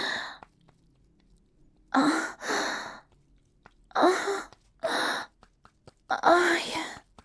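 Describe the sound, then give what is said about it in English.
A man lets out a series of breathy moans and short gasps in uneven bursts with brief quiet gaps between them, moderately soft, with no words spoken. “Yeah, you hear his moans, you hear his gasps,”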